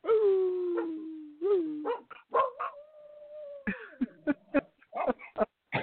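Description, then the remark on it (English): A dog named Bubba howls at a fire truck: two long, wavering howls that slide downward in pitch, then a quick run of short, sharp yips and barks. No one speaks. “Tune in to KDCL Media to listen to the dog, or on the dog howl.”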